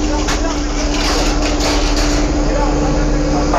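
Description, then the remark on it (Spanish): Engines of riot-control police vehicles idle loudly at a street protest, a steady low rumbling drone with a constant hum that never lets up, with indistinct voices faintly mixed in. “El sonido que ustedes escuchan son los motores de los vehículos de control de orden público que están acá justamente.”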